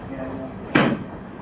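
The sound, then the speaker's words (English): A single sharp, brief metallic click of a door latch, made by somebody outside the door, standing out against a steady low background hum. “And is that door locked? There's somebody clicking out there.”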